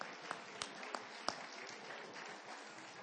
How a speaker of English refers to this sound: So I want you to salute the person on your left and right by giving them a hand clap and tell them how proud you are of them.